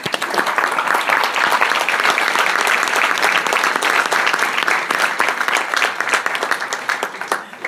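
Sustained applause from a conference audience for the professors present, a dense crackle of many hands clapping at once, steady and fairly loud for several seconds before tapering slightly at the end.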